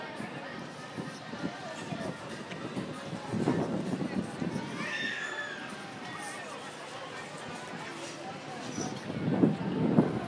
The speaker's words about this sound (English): nice and sunny, and at the same time it's windy, which makes it comfortable.